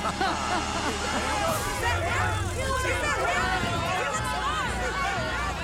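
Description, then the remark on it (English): A dense babble of many overlapping voices rises and churns steadily, a restless crowd clamouring with no single speaker standing out, over a low rumbling undertone. “There's some disturbance in the crowd.”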